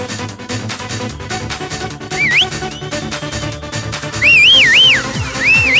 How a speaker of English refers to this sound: Wanna hear the whistle crew?